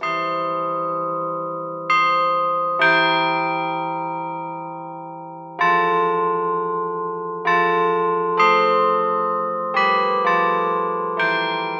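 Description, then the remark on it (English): A Chime Master cast bronze carillon of European cast bells rings out a slow melody, about nine struck notes in uneven rhythm, each loud and clear with a long shimmering decay that overlaps the next. No voices. “The cast bronze carillon features European cast bells, selected for their quality to make the melody line of a song clear, even from a distance.”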